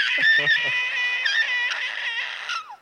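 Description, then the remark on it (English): A man imitates a siren with his voice: a loud, nasal, high-pitched wail held for about three seconds, wavering slightly before sliding downward at the end. “I was wondering why I heard so many sirens. It was just me going.”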